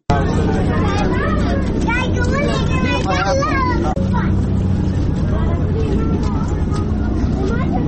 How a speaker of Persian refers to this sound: که با صدای آبهای جاری در کوچه و جاده های کابل آغاز می شود.